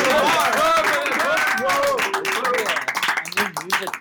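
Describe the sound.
A small group claps steadily for several seconds, the claps dense and close, mixed with excited voices calling out and cheering over the top.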